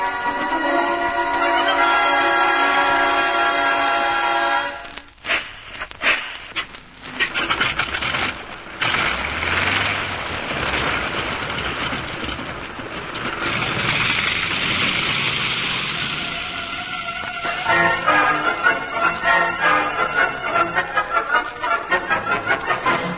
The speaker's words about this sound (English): He and Biggles have been caught in the downpour and are fighting their way against the howling wind